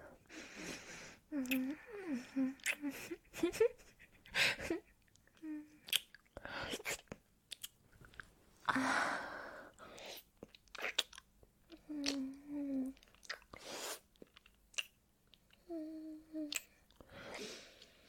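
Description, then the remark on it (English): Wet munching and mouth noises, as if munching on ears, repeat in irregular bursts right at the microphone, with soft breathy vocal sounds and brief tonal murmurs between them. “You like munching on your ears?”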